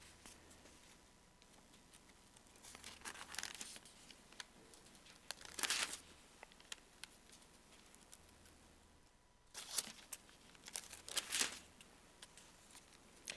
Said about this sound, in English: These paper-thin pages are so hard to turn and find. Man.